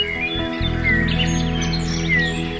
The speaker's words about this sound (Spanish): Luego de escuchadas estas palabras, en la asamblea de pájaros hubo un gran revoloteo y un prolongado alboroto de trinos.